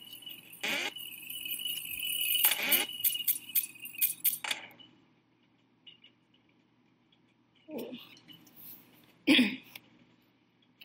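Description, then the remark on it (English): Bright metallic chimes and clinks from a video game, a dense cluster of coin pickups over the first few seconds, then two more isolated pings after a quiet gap. “Ooh, coins.”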